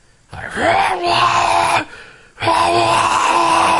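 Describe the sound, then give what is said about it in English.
A person roars like a beast, two long, loud, growling bursts with a short pause between them, rough and sustained with a low, moaning tone. “You have just been going, going, going, nothing going on, and you hear roaring up ahead and to the right.”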